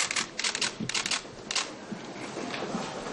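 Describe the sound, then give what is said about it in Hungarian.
Rapid bursts of camera shutters clicking and whirring from photographers and journalists filling the Jobbik party's press room in the parliamentary office building, some photographing the crowd, before Kovács Béla's press conference; several overlap in quick irregular volleys, then fade into a steady hiss of murmuring background noise. “Volt, aki külön le is fényképezte a tömeget.”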